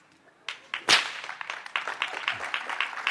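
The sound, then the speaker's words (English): A single sharp, loud whip crack snaps out during a whip-handling demonstration, followed by a scattering of lighter clapping-like smacks that continue steadily to the end. “Now, I'm going to give you another little demonstration here about this whip.”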